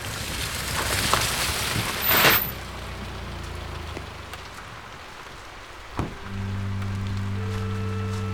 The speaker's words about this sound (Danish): Regnen står ned, da jeg kommer til Mikkelsbakke Refugium. Den har taget til hele formiddagen, og nu er den så tæt, at refugiet er indhyllet i en tåge.